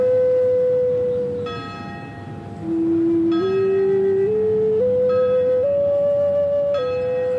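Prison bells ring out in a slow sequence of strikes, each tone hanging and sustaining into the next with shifting pitches, loud and resonant with no voices present, calling inmates back to their cells for the day's headcount.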